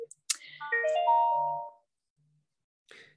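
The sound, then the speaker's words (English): A phone ringtone plays from a computer: a bright, melodic run of chiming tones lasting about a second and a half, clear, then silence and a brief soft rustle. “Sorry, that's a wee phone ringing there on my computer.”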